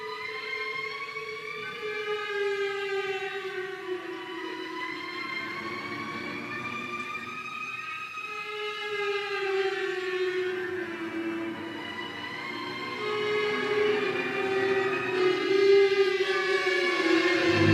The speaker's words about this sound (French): Donc maintenant, un extrait de la musique utilisée pour The Shining de Stanley Kubrick.